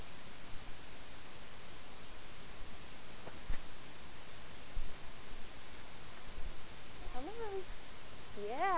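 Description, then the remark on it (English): A cat meows twice near the end, short rising-and-falling cries, the second a bit clearer, heard over a steady background hiss with no talking. “That's a kitty cat.”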